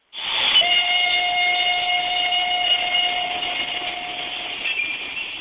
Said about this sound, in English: The ceremony began with the evocative sound of a train bearing victims of Nazi persecution to the camp, the most notorious in the archipelago of the Third Reich's death factories.